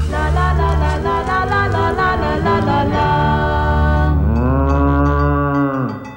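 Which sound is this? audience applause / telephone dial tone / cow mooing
cow mooing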